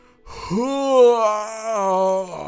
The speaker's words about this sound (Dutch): Gaapte hij.